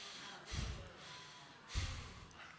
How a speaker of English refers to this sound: Now connect the breath. Remember, do like a breath of fire or a rapid breath through your yawn when you get it going.